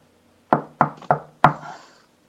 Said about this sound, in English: One sec, guys. One sec. What the heck is that? Someone's knocking on the door of the lounge here.